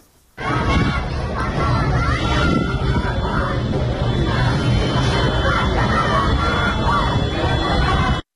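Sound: street protest crowd shouting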